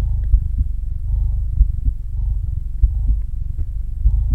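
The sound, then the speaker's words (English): A mother's voice imitates a cat's purr to lull a little one to sleep: a steady, low rumbling drone, fairly loud, pulsing gently in a slow, even rhythm for several seconds with no words. “Now you just relax and let mommy purr you to sleep.”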